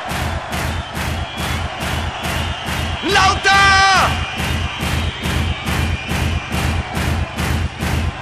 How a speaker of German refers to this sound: Mit dem rechten Fuß auf den Boden stampfen!